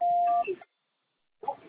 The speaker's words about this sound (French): C'est à vous après le bip.